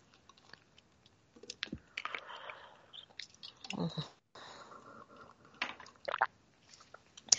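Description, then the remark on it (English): Someone drinks Shanghai water: a few sips and swallows with wet mouth noises and soft clicks, fairly quiet, with no talking. “I need a drink.”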